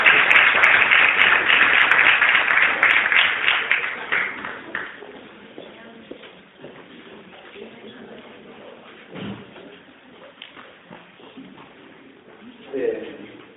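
An audience claps in a dense, loud burst of applause that holds for a few seconds, then quickly thins out and fades, leaving quieter scattered noises and faint murmuring.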